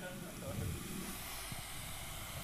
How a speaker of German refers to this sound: Wo kommen eigentlich die Geräusche her bei so einem Wasserkocher?